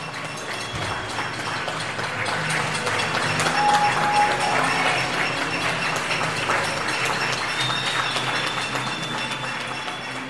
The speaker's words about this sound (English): And look, because we can, here's an applause just for Harriet's Uncle Fred.